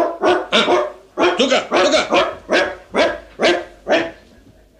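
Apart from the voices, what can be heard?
dog barking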